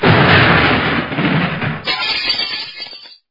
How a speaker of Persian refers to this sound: انفجار سوم انقدر نزدیک بود که شیشه های ساختمان شهرداری یک جاری ریخت.